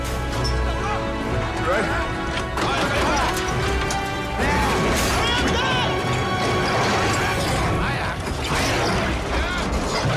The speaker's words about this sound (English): Eric looks fearful as one by one the doors are slammed shut.